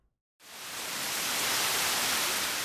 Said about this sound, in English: What terrible weather! It's raining buckets. There's no way we can go out in that.